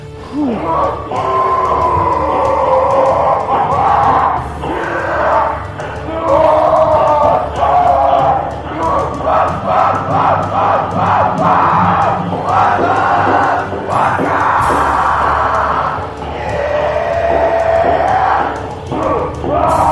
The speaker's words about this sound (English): Distorted View Daily proudly presents a man with a butt plug and enlarged testicles swinging his balls back and forth, slapping his ass and screaming wildly.